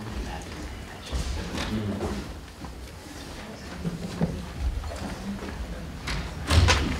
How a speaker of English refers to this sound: All right, good morning. I'm gonna shut the door actually.